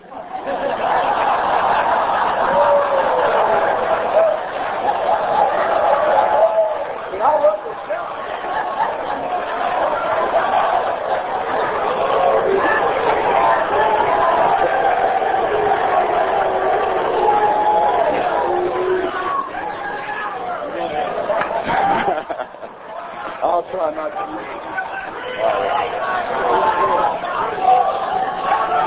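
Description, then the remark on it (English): A dense crowd shouts and yells nonstop for about half a minute, many voices overlapping into a loud, steady roar with brief dips, and snatches of laughter show through. “Brother, how's all this shouting? Is that going on my time?”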